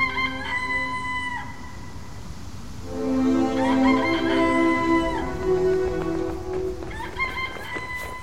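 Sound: rooster crowing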